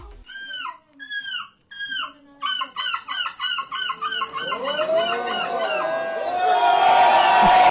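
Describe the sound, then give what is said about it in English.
A person, the runner-up in an on-stage seagull-imitation contest with 70 participants, imitates seagull calls with loud, harmonic squawks: a few spaced cries, then a rapid run of yelping calls, before a crowd bursts into cheering and applause. “Are these the actual seagulls or is these people impersonating seagulls? These are people.”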